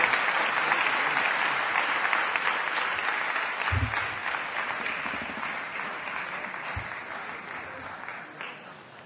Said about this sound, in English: I think both of them deserve a great round of applause for the future of Balvikas in the whole world. Thank you. Thank you very much.